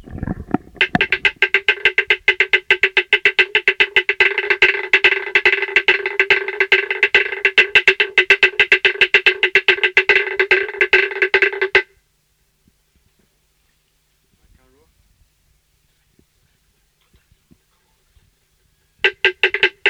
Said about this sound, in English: These are two beatings of a dance gong done by the people of Ra Ra, August 1957.